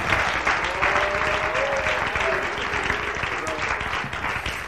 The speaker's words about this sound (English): Clap your hands and love him one more time, would you?